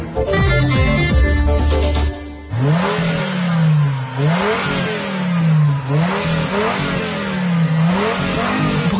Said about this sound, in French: Et là, il se fait plaisir en écoutant le moteur de sa nouvelle trouvaille.